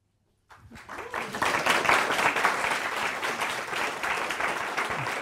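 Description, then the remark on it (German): A large crowd, the live audience in a full hall for the Sonntagsspaziergang broadcast, breaks into applause after a brief silence, a dense, steady wash of many hands clapping that stays loud and sustained without any voices over it. “Sie hören, meine Damen und Herren, zu Hause hier das Publikum. Wir haben einen gefüllten Saal, also seien Sie nicht überrascht, dass es sich heute im Sonntagsspaziergang anders anhört.”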